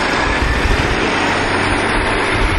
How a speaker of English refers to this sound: Okay. There's a bus. Oh my gosh, and it's a 3. We'll take it. Number 3 bus is a local bus that can actually take us all the way home.